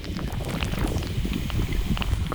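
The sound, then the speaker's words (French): Canal water fizzing and crackling, a dense steady mass of tiny clicks and pops like a sparkling drink, over a low rumbling bed, with no voices. “Comme le pétillement, comme si le canal c'était une eau pétillante.”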